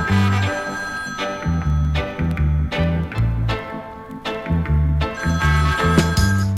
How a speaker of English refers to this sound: When me take a stop, me say me hear the phone ring.